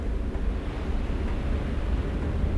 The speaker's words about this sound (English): The sea is moving quickly tonight.